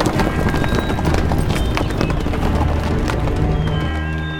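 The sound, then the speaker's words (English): Heavy hoofbeats of horses galloping hard, a dense, rapid pounding that stays loud throughout, with a rumbling low end and no voices. “He could hear hard-running horses.”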